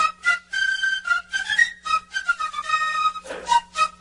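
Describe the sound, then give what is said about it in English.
A shrill, piping melody like a recorder, played in short, wavering high notes that step up and down with brief breaths between phrases; no one talks over it. “That sounds like my children doing their recorder practice.”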